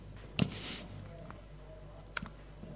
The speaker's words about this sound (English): Here is this paper. It's falling on the floor.